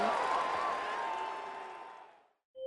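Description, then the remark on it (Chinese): A burst of dense clapping, like a crowd applauding, starts at full strength and gradually fades away over about two seconds, ending in a brief silence before another sound begins. “故事开门，请掌声，鼓励鼓励鼓励鼓励。”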